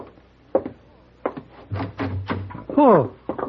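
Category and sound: household object, door being opened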